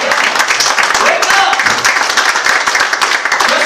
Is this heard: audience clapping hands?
yes